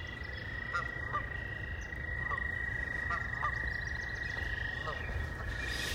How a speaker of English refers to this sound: And there are also some frogs making noises in the background. This is really where I should have started the show. The acoustics here are much better, less road noise, and lots of good nature sounds.